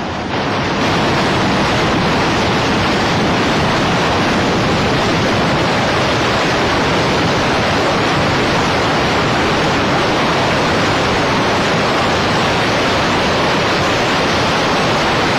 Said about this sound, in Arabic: موجة واحدة كهذه يمكن أن تدمر مدينة ساحلية بأكملها. المشاهد التي سنراها بعد قليل التقطت بالكاميرات الموجودة في قبو هذا الفندق المقام على ساحل البحر.